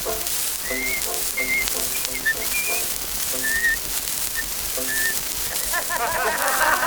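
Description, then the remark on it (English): Someone whistles a lively tune in short, bright phrases, the notes clear over a soft, hissy background with a faint accompaniment underneath. “And now he goes along like a monkey in a fit, and this is how he whistles that tune.”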